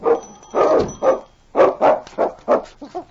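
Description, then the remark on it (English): A dog barks in a quick, insistent series of about eight loud barks with short gaps, some sounding higher and whiny toward the end, while clawing at a solid door after being left behind. No one speaks. “clawed at the door and barked a protest at being left behind.”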